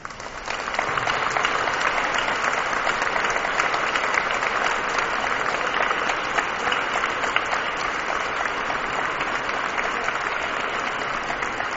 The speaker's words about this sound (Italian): E in questo momento avete sentito, ragazzi, quanti si sono impegnati per questa festa. A tutti penso possiamo fare anche un bel applauso.